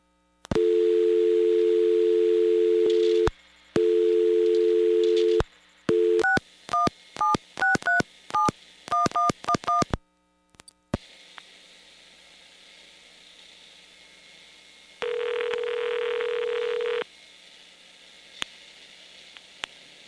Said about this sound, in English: Now, let's compare that to a phone call, a local phone call, going in with money.